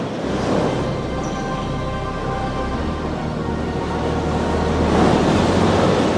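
Strong wind roars steadily with a rushing, surf-like wash, swelling louder toward the end. A faint steady hum runs underneath, and no one speaks.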